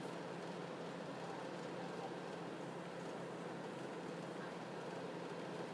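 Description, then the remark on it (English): A steady, unbroken interior rumble and low engine hum inside a stationary, fairly full passenger train waiting to depart, with a little announcement about to come, and faint indistinct murmur in the background. “We're back again. The train's a bit fuller. We're getting a little announcement, and then I think we're about ready to go.”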